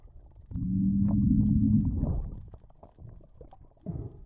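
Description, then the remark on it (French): A deep, droning underwater fish call, probably from a distant fish, lasts about a second and a half, a steady low groan with a buzzing tone, set against faint underwater crackles and murmur. “une analyse du signal sonore permet bien de détecter la partie très grave d'un son de poisson, donc probablement émise par un poisson lointain”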